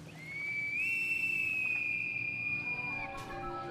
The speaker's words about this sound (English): Then we hear a whistle like a bosun's pipe.